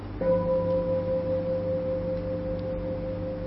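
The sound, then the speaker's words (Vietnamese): A single meditation bell is struck once during a guided sitting meditation and rings out with a steady, pure mid-pitched tone and soft overtones, sustaining and fading only slightly over several seconds, with no voices. “Bây giờ chúng ta nương vào tiếng chuông để nhìn sâu vào trong tâm chúng ta thấy gì.”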